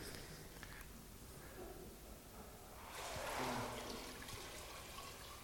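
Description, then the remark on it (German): Water is poured in and trickles steadily, swelling into a louder splashing rush midway before settling back to a softer, continuous flow, with no talking. “Claudius, wir probieren mal. Gib mal Wasser zu.”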